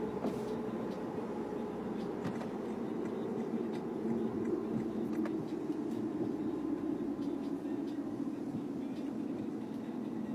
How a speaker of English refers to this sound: For being the middle of fucking nowhere, there are sure a lot of cars. Because they're all probably getting redirected the same way we were.